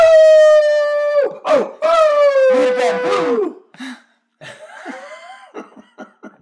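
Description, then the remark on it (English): A person imitates a collie dog's howl with two long, loud, steady howls separated by breathy, laugh-like gasps, followed by quieter, shorter vocal noises that trail off. “Do Khalis howl?”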